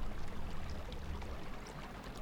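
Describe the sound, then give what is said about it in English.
A small brook trickles and babbles steadily through a weedy bed, a soft continuous wash of running water with faint bubbling flecks, fairly quiet, with no voices. “Springs appeared in the banks, and soon they found themselves following a brook that trickled and babbled through a weedy bed.”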